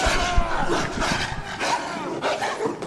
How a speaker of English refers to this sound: Ouch. Come on, Rob. You gotta have your dog do your dirty work. So Rob's wolf definitely just bit off a few fingers.